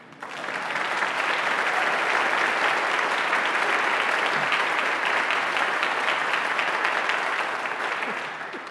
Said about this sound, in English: It wasn't really meant to be an applause line, but I'll take it.